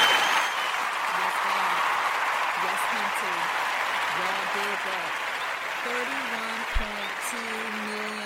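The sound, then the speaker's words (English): Steady audience applause fills the whole stretch, a dense wash of clapping at an even level, with a few faint voices murmuring underneath and a brief thump near the end. “I know I said I wasn't messing with this applause, but I'm going to do it for this.”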